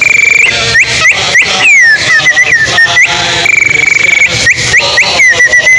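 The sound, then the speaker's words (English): A person imitates bird calls with a steady run of shrill whistled chirps, rising and falling glides, and quick warbling trills, loud and continuous over the whole stretch. “Somebody caught up with a really original idea of some bird calls.”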